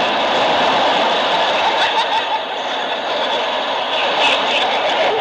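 A steady, loud rumble of trains running beneath a venue built over Pennsylvania Station, a broad, hissing roar that holds constant for several seconds, with no voices over it.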